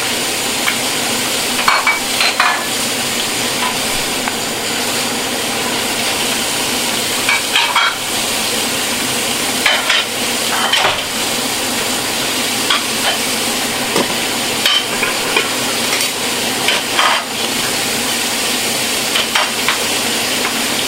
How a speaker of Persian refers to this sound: متاسفانه اینجا به خاطر اینکه سر و صدا خیلی زیاده ما خیلی صدای سرخ کردن یا آشپزی در شرایط سخت دیگه باید ببینیم چی میشه. هم میزنم پیاز رو چون نمیخوام پیازم بسوزه.